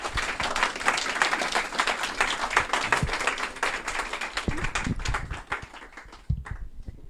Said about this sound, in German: Noch einmal Applaus an unsere zwei 2D-Künstler.